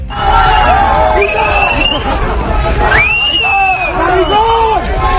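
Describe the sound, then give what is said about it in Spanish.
A group of students shouts and yells together on the University of Navarra campus, a dense, loud babble of raised voices with rising and falling cries overlapping throughout, sustained without pause, shouting the homophobic slur "maricón" at Spain's Interior Minister Fernando Grande-Marlaska. “Gritos de maricón dirigido por un grupo de estudiantes hacia el ministro del Interior, Fernando Grande Marlaska, que participaba en unas jornadas organizadas por la universidad.”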